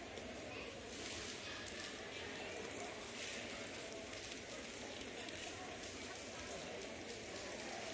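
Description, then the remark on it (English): Water pours and splashes steadily as a group of people pour out their water bottles together during a sermon, a continuous dense patter like rain hitting the ground, holding an even loudness throughout with faint voices murmuring underneath. “I didn't say you couldn't pray with each other while you poured the water out.”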